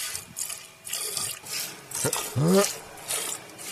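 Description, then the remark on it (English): Hand milking a cow at a milking competition at the Indiana State Fair: rhythmic hissing squirts of milk stream into a pail, roughly one or two a second, with a short low voiced sound breaking in midway. “This is him, like, starting out slow, and he opens up the milk like the Nile. Like, it just, it comes out like a river.”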